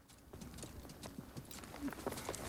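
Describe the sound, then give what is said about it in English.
Horse hooves clip-clop over soft golden sand in bright sunlight as horses are ridden across it, in an irregular, shuffling rhythm, the muffled thuds moderately loud against a low rustling background, with no talking. “as Pete's horse attempts to climb a dune, it loses its footing and falls onto its side”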